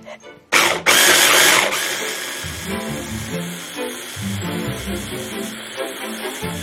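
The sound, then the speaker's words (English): A motorized blender whirs loudly, starting with a sharp surge and then settling into a steady churning hum as it chops a thick onion mixture with unfermented soy sauce and onion powder, with faint voices underneath. “We'll just blend this up and hope that it does not splash us.”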